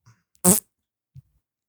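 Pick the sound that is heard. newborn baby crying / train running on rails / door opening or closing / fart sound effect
fart sound effect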